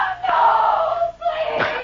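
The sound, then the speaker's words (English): A captive woman screams in the night, a loud, drawn-out, high-pitched cry that breaks briefly and then rises again in a second wail, unaccompanied by speech. “Then, a scream in the night, and Johnny first learned that his wife is in the hands of his tormentors.”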